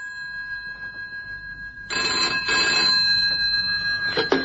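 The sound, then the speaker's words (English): A telephone in a phone box rings with a sustained metallic bell jangle, fairly loud, growing busier and brighter partway through, with no voices heard. “That's why I'm ringing your phone box.”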